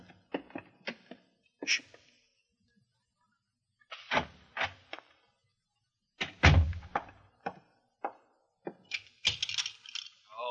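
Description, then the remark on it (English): A back door is opened and shut, with a series of sharp latch clicks and rattles around a single heavy thud midway, separated by brief quiet gaps. “Now over to the back door fast.”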